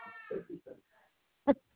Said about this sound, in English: I hear a kid in the background. Yeah, sorry, my daughter's pretty vocal. She has a lot to say, evidently.